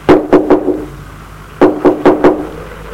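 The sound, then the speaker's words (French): A woman knocks on a door again: two quick sets of four solid knocks, separated by a short pause. The raps are sharp and fairly loud, with a woody thud, and no voices are heard. “Elle frappe encore une fois.”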